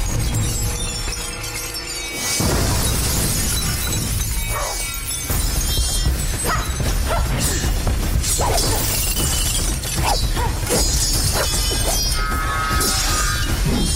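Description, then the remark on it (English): A door to Kasumi's room is kicked down by Leon with a sudden loud crash, followed by a long stretch of dense smashing, shattering and clattering debris that stays loud throughout, with no voices. “And then suddenly, Leon kicks the door down.”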